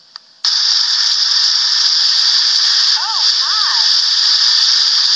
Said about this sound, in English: It's raining ice!